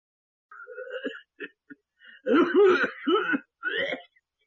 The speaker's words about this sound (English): He doesn't look well. He coughs all the time. But I think it's only a bad cold.